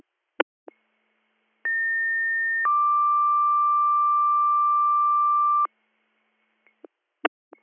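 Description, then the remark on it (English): A fire department radio paging alert, the second page for Department 8 in Albany Township for a one-vehicle crash: a steady higher tone holds for about a second, then drops to a lower tone held for several seconds, framed by sharp radio squelch clicks. “I'm up in the valley, so you better do a second page.”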